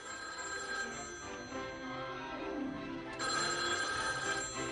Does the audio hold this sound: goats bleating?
no